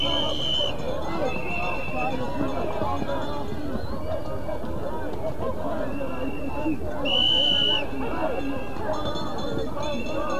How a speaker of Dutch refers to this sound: Het paard draait tussen de mensen door, mensen raken in de knel.